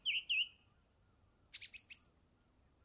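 A song thrush sings against a quiet background: a clear note repeated twice, a short pause, then a quick run of bright, varied chirps and a rising whistle.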